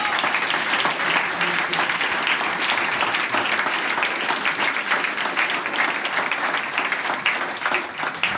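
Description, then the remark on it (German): An audience applauds the show's production team steadily for the whole stretch, a dense, even wash of many hands clapping at a constant, fairly loud level with no voices standing out. “Danke unserem Team, das ist euer Applaus.”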